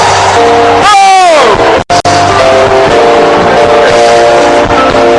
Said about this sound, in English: Give Jesus a big hand clap and a big shout. He deserves the praise.